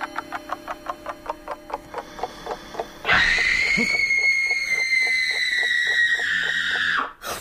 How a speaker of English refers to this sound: Scream. What did you think it was? Oh, isn't it horrible? Yes, it is, but it might have been worse.